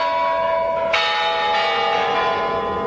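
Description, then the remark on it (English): Big Kremlin clock tower bells in Russia ring out loudly at New Year to usher in the new millennium: a lingering resonant hum, then a fresh heavy strike about a second in that blooms into rich, sustained overtones. No voices. “Putin who delivers the traditional New Year greeting to the Russian people before the Kremlin bells usher in the new millennium”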